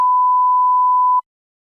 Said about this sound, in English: Leave a message after the beep.